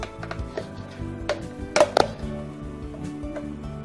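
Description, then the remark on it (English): Two cups of soft vanilla ice cream, softened in the microwave for 30 seconds and stirred, being scooped into a mixing bowl, with a few utensil knocks and clinks against the bowl over a low hum; no one speaks. “Just put this in the bowl.”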